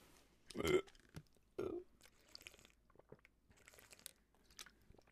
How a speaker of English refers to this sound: One sec, I gotta chew this.